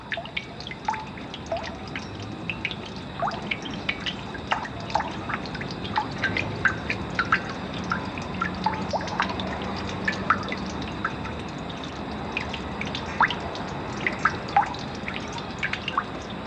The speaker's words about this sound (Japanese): 自然寄りで行くと東北大学農学部内にある雨どいの音、雨が降るとまるで水琴窟のような音が出るんです。